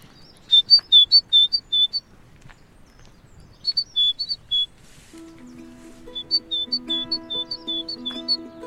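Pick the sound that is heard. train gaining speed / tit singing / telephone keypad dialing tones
tit singing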